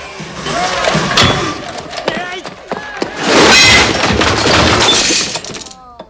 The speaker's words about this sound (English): He picks up the disco equipment and slams it down onto the pool table.